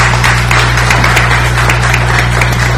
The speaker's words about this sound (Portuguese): 39 anos, uma salva de palmas, hein, gente?